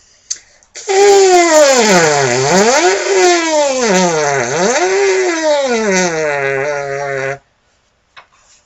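A buzzy brass lip buzz without a mouthpiece, played as the 'seesaw' exercise, loud and alone, sweeps down and back up in pitch a few times over about six seconds, then settles on a low sustained note.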